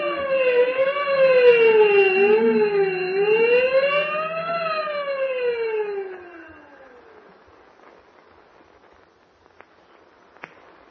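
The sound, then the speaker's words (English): A loud prison escape alarm wails, its siren tone sliding up and down in slow sweeps for about six seconds before dying away, leaving faint hiss and a couple of soft clicks. “Ring the alarm bell.”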